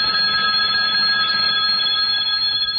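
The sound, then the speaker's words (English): A telephone rings steadily and loudly, a continuous bright trilling tone with layered high overtones that holds unbroken for the whole stretch, with no one speaking. “Somebody get the phone.”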